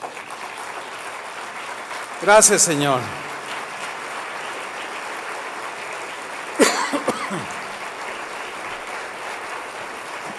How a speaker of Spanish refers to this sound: Póngase de pie y dele un aplauso.